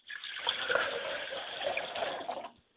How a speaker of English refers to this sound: I pour libations to my father's spirit, and I pour him a glass of water and say, drink well, Father.